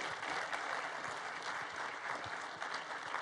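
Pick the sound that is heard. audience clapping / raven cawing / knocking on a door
audience clapping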